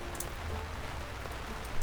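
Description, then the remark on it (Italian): Steady rain pattering down on a trail, a dense continuous hiss of drops with a few sharper splashes standing out, moderately loud, with no voices. “Quel giorno abbiamo proseguito lungo il nostro sentiero finché si mise a piovere.”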